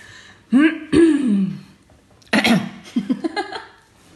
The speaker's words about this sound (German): Du kannst dich schon mal gleich räuspern, aber noch nicht. Warte.